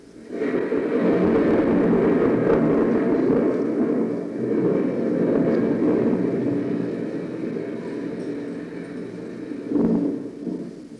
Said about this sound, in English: The sound of a lawnmower reminds me that it's time to enjoy God's summertime.